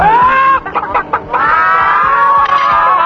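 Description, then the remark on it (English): A voice imitates a chicken, with a drawn-out squawking cluck broken by a quick burst of choppy clucks, loud, with no other talk. “Chicken.”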